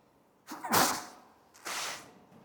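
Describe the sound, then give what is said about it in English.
A sharp, loud sneeze erupts with a quick intake and explosive hiss, followed about a second later by a second breathy, noisy burst. No one speaks. “Somebody say Gesundheit.”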